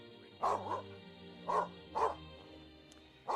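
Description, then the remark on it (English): A dog, Maddie, barks several times in short, sharp bursts as she runs in the door. The barks are fairly loud, with brief pauses between them and a low steady hum underneath. “Maddie runs in the door and barks.”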